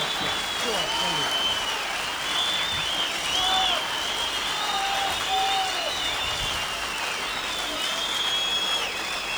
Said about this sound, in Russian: благодарит вас за аплодисменты, за цветы, прощается с вами.